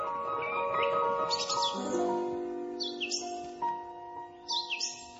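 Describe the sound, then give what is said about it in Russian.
Several bright starlings chirp and whistle in short repeated phrases over a steady hum of sustained tones, the calls arriving in bursts a few seconds apart, heard just after sunrise. “Взгляните, мамочка, какие чудесные деревья. Боже мой, воздух. Скворцы поют.”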